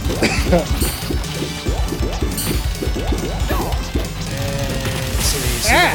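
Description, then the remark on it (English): Rapid, bubbly popping hit sounds from a video game, the default sound for hitting a character, repeat in quick loud bursts, followed by a short steady electronic tone and a final bubbly chirp. “Oh, you hear the default hitting sound? The bubbly sound.”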